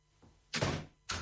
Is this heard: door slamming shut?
yes